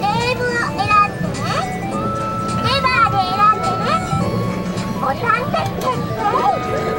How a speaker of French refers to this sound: Alors tout ça c'est de l'atmosphère, hein, c'est de l'ambiance, c'est des sons un peu partout, des sons de Tokyo.